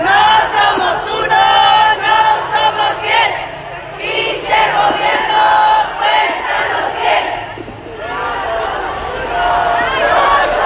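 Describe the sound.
About 1,000 relatives of disappeared people and collectives march from the Glorieta de los Niños Héroes to downtown Guadalajara, Jalisco, Mexico, for the International Day of the Victims of Enforced Disappearance. The crowd chants loudly and continuously in unison, many voices rising and falling together in a steady rhythmic cadence over about ten seconds.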